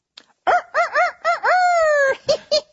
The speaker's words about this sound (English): Well, anyway, humans have relied on roosters to wake them up for nearly 5,000 years. Wake up, everybody! Roosters have a distinctive crow.